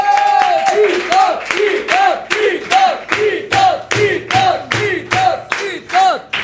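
An audience welcoming a guest claps in a steady, rhythmic beat, about two claps per second, while a crowd chants and cheers loudly over the clapping throughout.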